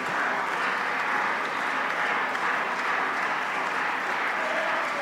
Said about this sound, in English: Hallelujah. Clap your hands unto the Lord right now.